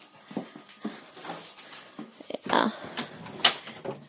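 An excited dog whines, snuffles and snorts in a rapid, irregular string of squeaky whimpers and pig-like grunts, with a louder burst of huffing partway through, greeting a person who has just arrived from work.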